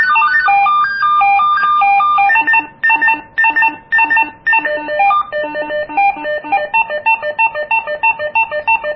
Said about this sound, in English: Okay, that one is going to be the other walkie-talkie. So let's just say that's John's ringtone.